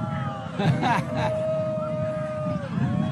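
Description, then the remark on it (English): An excited crowd watching a solar eclipse whoops and cheers as totality nears, with a burst of shouting early on and long, rising-and-falling howling cries carrying over a steady murmur of voices. “I'm sure people at home can hear the crowds and excitement here.”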